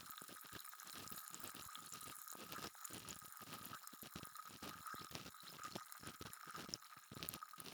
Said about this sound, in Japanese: 耳の中すっきりするって。そうでしょう。これだけシュワシュワしてればね。